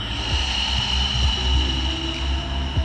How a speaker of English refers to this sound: That's me breathing. I'm in a dark room, a studio called the Breath House. I'm lying on a mat with a blanket, a weighted eye mask, and dozens of strangers, all breathing together.